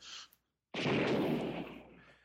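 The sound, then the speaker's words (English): A single gunshot bursts out abruptly after a brief silence, loud, with a broad rushing tail that rolls on and slowly fades over the next second or so. The shot slams into the side of a car, hitting the car door. “you hear a gunshot that slams into the side of the car.”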